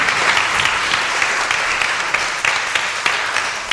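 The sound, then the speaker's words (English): A crowd at a religious blessing ceremony applauds steadily, a dense wash of many hands clapping at once, loud and sustained throughout with small bursts of sharper claps scattered through it. “Can we have, I think, a round of applause for this?”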